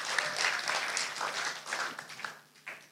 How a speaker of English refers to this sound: Let's give him a cheer.